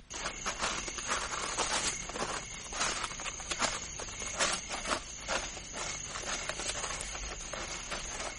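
Footsteps of a person walking towards a car at a steady, unhurried pace, each step a crisp scuffing crunch, moderately loud over a faint background hiss, with no voices.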